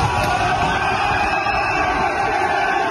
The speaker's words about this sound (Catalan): I en aquest moment s'aixequen totes les persianes de les altres habitacions i la resta de nois se sumen als crits inicials. És evident que es tracta d'una escena assajada.